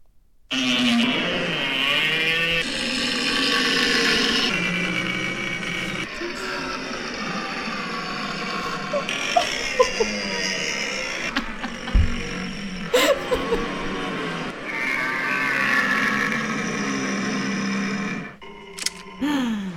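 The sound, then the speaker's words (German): A person imitates red deer stag calls at the 2021 stag-calling championship (Hirschrufermeisterschaft) in Dortmund: a series of long, loud, droning bellows with rough harmonic tones, separated by short breaks, with a few sharp clicks partway through. “und zwar war das von der Hirschrufermeisterschaft von 2021, die in Dortmund stattgefunden hat.”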